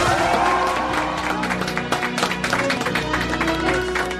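A crowd breaks into loud, sustained applause with scattered cheers and whoops as a guest comedian is welcomed onto a program, the dense clapping holding steady for several seconds.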